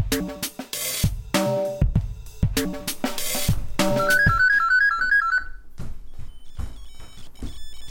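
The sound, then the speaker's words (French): A run of sharp clattering bursts, as someone dials a fake number on a telephone, gives way to a steady warbling telephone ring tone that lasts about a second and a half, then fades to faint high beeps. “le téléphone, je fais un faux numéro.”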